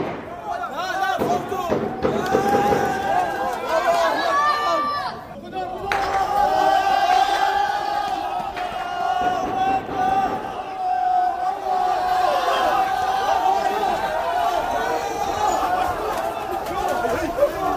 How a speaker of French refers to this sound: La foule s'en va en courant, apparemment.